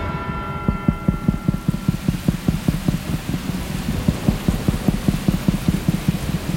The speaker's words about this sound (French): Alors que l'église sonne une heure de l'après-midi, un nouvel orage s'abat sur Vaison-la-Romaine et la pluie reprend de plus belle.